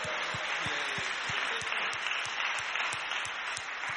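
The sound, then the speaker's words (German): A church audience at an Easter service applauds the worship team steadily, a dense wash of many hands clapping with a few sharper individual claps standing out. It holds an even, moderately loud level throughout, with no voices. “Wollen wir auch dem Lobpreisteam nochmal einen Applaus geben?”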